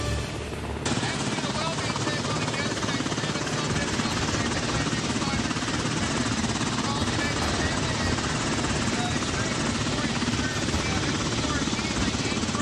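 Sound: helicopter rotor and engine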